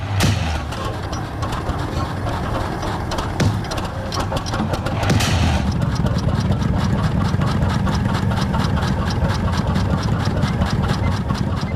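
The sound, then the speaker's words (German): A teleporter machine sputters like an old motorcycle engine, with a couple of loud bangs early on, then settles into a steady, fast, rhythmic whirring, fairly loud throughout. “Der Teleporter stottert vor sich hin, wie ein altes Motorrad. Es knallt ein paar Mal laut, doch dann surrt die Maschine wie frisch geölt.”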